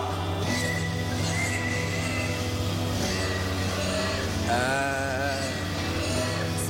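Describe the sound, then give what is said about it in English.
Loud, continuous squealing from several pigs, with high, wavering cries rising over a dense, steady din of grunts and noise, unbroken throughout. “Sweetie, those are pigs.”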